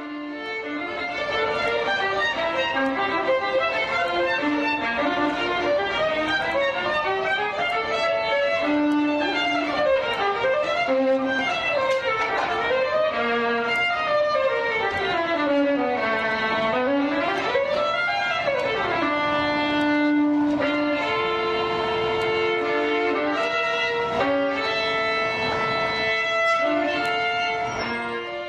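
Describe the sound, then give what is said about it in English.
A Stradivarius violin made in 1713, played by Joshua Bell in an arcade at the top of an escalator in a Washington subway station, plays a solo melody that stays steady in loudness, with sweeping phrases that rise and fall, long sustained notes and rich bright overtones, and no voices. “Bell plays a $4 million Stradivarius made in 1713.”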